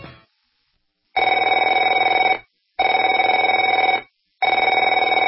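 A telephone rings loudly in a steady pattern: three long, buzzing rings of about a second each, separated by short silences, with the tail of an earlier ring at the start. No voices.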